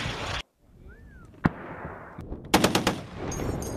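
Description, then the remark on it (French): Military weapons firing outdoors during an army live-fire evaluation of the 1st Régiment de chasseurs d'Afrique, using calibres from 20 mm cannon to FRF2 rifle and 12.7 mm machine gun: a single sharp shot, then a short rapid burst of five or so loud machine-gun rounds over a steady rumbling background. “Sous l'œil expert des contrôleurs, les pelotons mettront en œuvre tout le panel des calibres, du canon 20 mm au Milan, en passant par le FRF2 et la mitrailleuse 12-7.”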